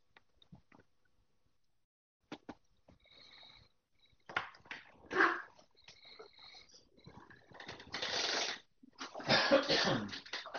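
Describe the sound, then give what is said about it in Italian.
A few sharp, breathy sneezes from a municipal assessor during a council discussion burst out one after another, each louder and longer than the last, separated by quiet stretches with faint clicks and shuffling. “No, fra l'altro noto che l'assessore starnutisce”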